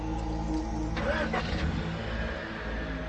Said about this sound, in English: I want the car running. I said start the car!